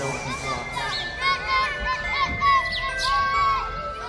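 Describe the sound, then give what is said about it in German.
Several children's voices overlap in lively outdoor play on a square, with high calls and chatter rising and falling over a steady background bustle. “Juren später, Kinder spielen sich auf demselben Platz.”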